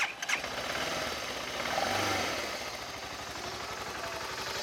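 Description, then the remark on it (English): A rebuilt BMW motorcycle engine at a BMW Motorcycle Club of Colorado rally cranks and fires up, then settles into a steady, fairly quiet running rumble, swelling briefly before holding an even idle. “it's been rebuilt and it's running really strong”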